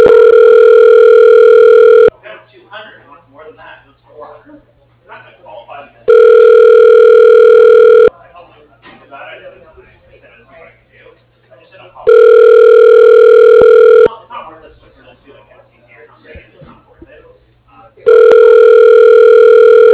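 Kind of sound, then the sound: signal or alarm, telephone ringback tone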